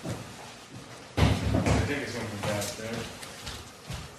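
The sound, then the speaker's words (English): A series of irregular, dull hammer knocks starts abruptly and repeats over a few seconds, partly buried under muffled voices talking. “Stop the hammering out there. Who's got a hammer?”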